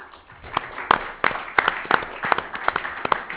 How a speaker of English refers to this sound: Please join me in applauding Gary and Valero for their partnership and helping us bring such outstanding teams to San Antonio.